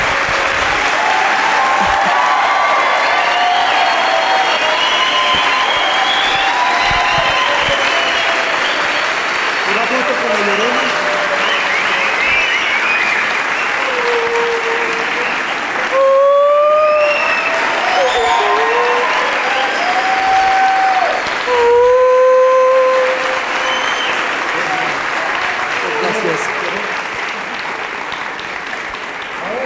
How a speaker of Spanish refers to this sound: Yo voy a ser el primero, pero espero que ustedes me acompañen para despedir a esta mujer con un aplauso de pie. Muchas gracias.